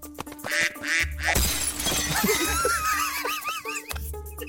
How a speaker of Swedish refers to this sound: Bra rutin, det är en gräsand faktiskt.